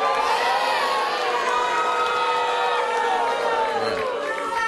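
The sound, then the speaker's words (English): A large crowd cheers and shouts continuously after an announcement that Florida's electoral votes go to George W. Bush, a dense roar of many voices with whoops rising above it, loud and sustained throughout. “And the crowd loves it.”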